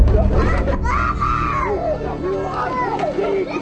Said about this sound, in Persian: این گریه کودکیه که پدرش رو سربازان اسرائیلی به اسارت میبره.